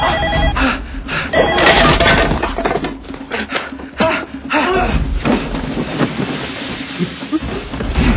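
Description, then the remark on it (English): A telephone bell rings loudly and insistently, its bursts repeating over busy clutter with thumps and faint voices mixed underneath. “Get the phone.”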